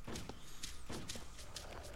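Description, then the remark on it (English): Footsteps of a player character walking in a video game at a steady, regular pace, each step a soft, crisp tap over a faint background hum, fairly quiet, with no one talking. “The player doing that walking.”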